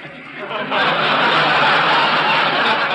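The engine of a truck advertising Johnson's Wax turns over and then roars steadily, loud, filling the rest of the moment with a broad, rushing drone.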